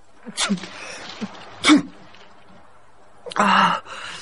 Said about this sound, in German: Und als er eines Tages unter heftigem Niesen erwachte, war ihm ganz sonderbar.